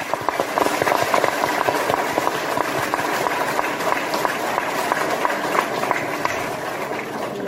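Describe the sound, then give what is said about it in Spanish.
An audience claps steadily for several seconds in tribute to Eduardo Alonso, a dense, continuous patter of many hands at an even, fairly loud level with no voices rising above it. “Iba a pedir un aplauso que ya se vertió para nuestro querido amigo Eduardo Alonso, el más pontevedrés de los orensanos, me permite.”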